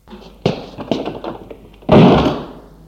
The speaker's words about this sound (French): Et il ferme la porte.